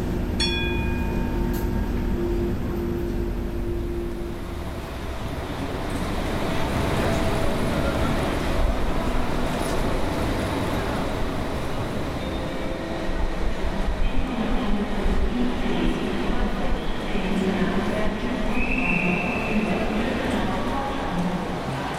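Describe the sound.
Steady rumble and rattle inside a moving passenger train travelling to Cologne, Germany, on a rainy summer day, a continuous low roar with faint rhythmic clatter and occasional higher squeals, with indistinct voices murmuring in the background.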